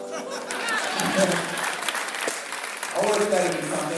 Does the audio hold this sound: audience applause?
yes